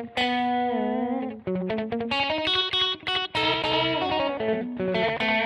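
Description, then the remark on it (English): A sustained, loud tone processed with an auto flange feature set for a chorus-style sound and a modulating slapback echo, its pitch wavering before choppy, rhythmic notes follow. No one speaks. “And so we also have an auto flange feature. So like if we set this for, well, let's just go like a little further for kind of a chorus style.”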